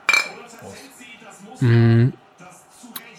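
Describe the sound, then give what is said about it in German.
Glasses clink together once in a quick, bright toast with cola near the start, at a wooden table, followed by a loud, sustained voiced sound and some quieter background voices. “Darauf eine Cola. Ja, das ist ja Wahnsinn. Prost”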